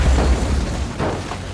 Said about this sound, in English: Seal powers up the grassy runway. He's going as fast as he can, but he's struggling to produce enough momentum to get this hunk of metal off the ground. He's running out of runway. plane veers off the runway and crashes.